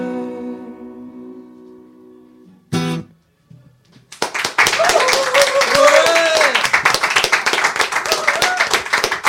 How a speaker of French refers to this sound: personne n'a eu autant d'applaudissements ici.